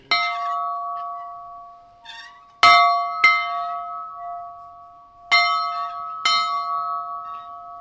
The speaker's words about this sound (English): That is nice. That is a nice clang. That's one of the better bells I've ever had in here for a ring.